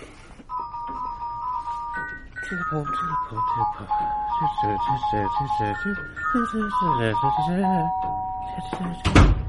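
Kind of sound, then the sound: household object, doorbell chiming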